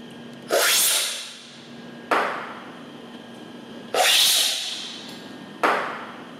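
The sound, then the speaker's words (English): A lab technician in Costa Rica slurps and spits coffee during a tasting, swishing samples from a row of four cups and spitting into a travel mug: four loud, hissing bursts at a steady pace, each starting sharply and trailing off, with no talking. “Leaning over a row of four cups of steaming coffee, a lab technician breathes in the fragrant aroma of a fresh brew before spooning out a sample and swishing it across his taste buds. Satisfied, he spits it out into a travel mug”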